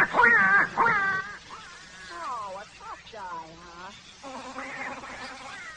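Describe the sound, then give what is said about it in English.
A nasal, squawking duck-like voice gabbles in wobbly, quacking bursts, loudest at the start and then continuing steadily at moderate volume, like a voice imitating a duck quacking. “Oh, go on, scram, Ducky Wucky, before I clip your tail feathers.”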